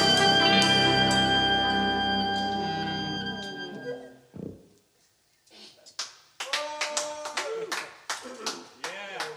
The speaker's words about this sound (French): Alors c'est pas nous dans le studio qui applaudissons, hein, quoi qu'on pourrait le faire. Non, c'est dans le disque, hein, c'est dans le morceau que ça applaudit, voilà.